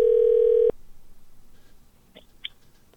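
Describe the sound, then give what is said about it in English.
A loud, steady telephone dial tone hums for under a second and cuts off, followed by a pause and then two short, brighter keypad beeps as another phone number starts being dialed. “So since there was a mistake there, I think I should call the other number now and ask him to hang that one up.”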